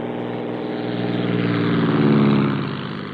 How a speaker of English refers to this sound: One way is to send up small aircraft that can spot wetbacks in the fields or along the railroad beds. With two-way radio communication, the plane directs other Border Patrolmen in trucks on the ground, like this.